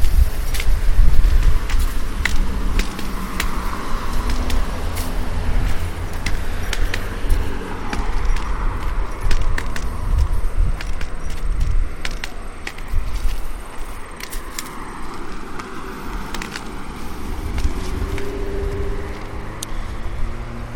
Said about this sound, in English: Okay, car just came around the corner. I seem to have great timing with that.